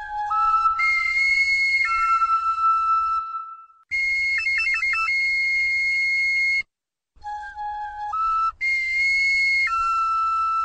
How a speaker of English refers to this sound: When two people played the same instrument, probably some sort of primitive flute, in the circle, the patterns of auditory waves changed, and basically you tripped out on them.